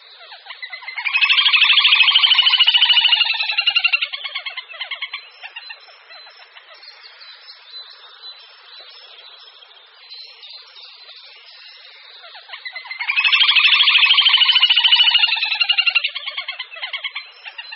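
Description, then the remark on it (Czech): Little grebe calls: two loud, high, rapid whinnying trills a few seconds long, each tapering off, with softer trilling chatter between them and no voices. “Potápka malá.”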